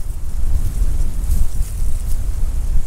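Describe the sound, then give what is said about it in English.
Steady, loud wind buffeting outdoors on the Watery River, a constant low rumble with gusty swells and faint hiss above, blustery air rushing across the open water. No one speaks. “It's a little bit windy out here on the Watery River today.”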